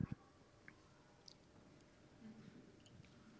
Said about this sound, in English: That was a well-timed sip, not intentional.